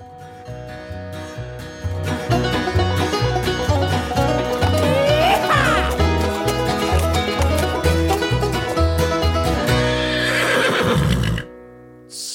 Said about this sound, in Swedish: Så mycket hästgnägg har inte varit faktiskt förra helgen